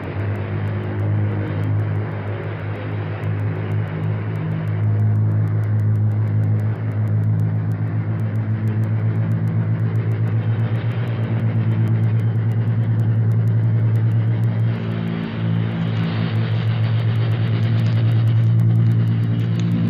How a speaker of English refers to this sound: our microphone is open, ready to record the sound of your 10 engines as you pull up to it, pass it, and get off the ground to start a practice mission of thousands of miles.